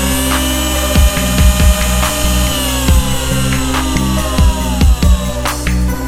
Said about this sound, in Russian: Я представлю себе холодную сталь к виску, нажму на курок, губу заглушу, звук пробивающего череп сверла будет резать слух, пока глаза не накроет мгла.